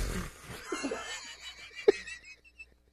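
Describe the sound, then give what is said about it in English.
A person vocally imitates the weak, wheezy fart of an old man who cuts hair, with a quiet, breathy sputter that trails off in a few faint puffs, ending in a brief squeaky blip. “He's so old, he's oblivious that he's farting. He's just like...”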